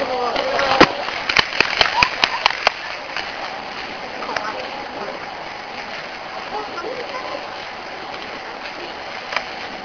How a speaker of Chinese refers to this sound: 好，我们掌声欢迎一下。